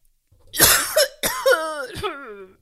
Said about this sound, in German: Entschuldigung, dass ich so viel husten muss. Ich bin nämlich auch ein bisschen krank.